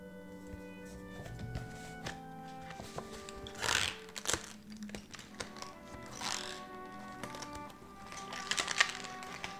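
unwrapping a gift

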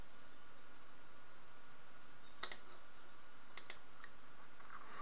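computer mouse clicking

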